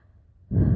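A single sharp, breathy gasp bursts in after a moment of near silence, loud and broad, like air being sucked in suddenly.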